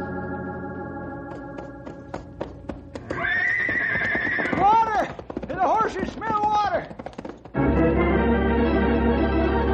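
A horse whinnies loudly, a long wavering neigh that rises and falls, with clopping hooves before it and a steady low rumble underneath.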